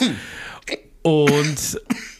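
A man coughs and hacks in several rough, voiced bursts close to the mic, with throat-clearing rasps mixed in. No words are spoken.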